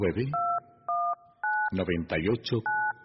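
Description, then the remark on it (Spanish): Four clear, loud keypad beeps from a phone being dialed on a radio call-in program, each a short steady dual tone, spaced unevenly with a man's voice speaking in the gaps between them. “Nuestro teléfono espera su llamada.”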